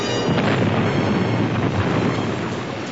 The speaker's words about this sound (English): Then the Star Destroyer exploded into 1,000 pieces. Light and sparks flew everywhere and debris pelted the Falcon.